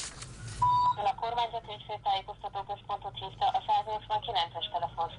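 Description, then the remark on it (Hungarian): A short steady tone, then a quick run of beeping touch tones as a phone number is dialed, evenly paced, with faint background noise; the number is a hotline in Hungary for reporting found dead birds. “Ez az a telefonszám, ahol be lehet jelenteni a talált madártetemet.”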